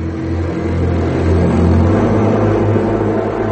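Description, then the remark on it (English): Foom's spaceship entering Earth's atmosphere and approaching the Latham Institute on the Gold Coast of New California: a loud, deep, steady droning engine roar with humming tones underneath that swells slightly and holds for a few seconds, with no talking. “Later, Foom's powerful ship enters Earth's atmosphere and approaches the Latham Institute, a complex of pearlescent blue domes situated on the Gold Coast of New California.”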